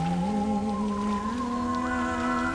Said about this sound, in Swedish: Och då hör jag någonting. Ett eko av en sång. Hör du?